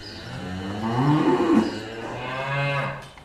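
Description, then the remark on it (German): Suckler cows on a farm moo in a long, drawn-out low call that rises and falls, with a second bellow overlapping toward the end, loud against a faint outdoor background. “Da sind wir bei den Mutterkühen.”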